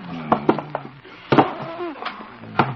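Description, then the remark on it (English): A heavy wooden desk is pushed across the floor of a radio station to barricade the door, scraping and bumping with several sharp knocks and a groaning drag, fairly loud, ending against the door. “Better barricade the door. First the desk.”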